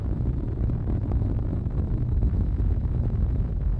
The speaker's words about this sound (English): Discovery's three liquid fuel main engines now throttled back to 67% of rated performance